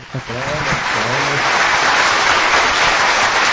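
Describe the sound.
A crowd breaks into loud, sustained applause for politician Paulo Maluf as he is introduced, a dense steady wash of clapping that quickly swells and holds; a voice speaks briefly over the start.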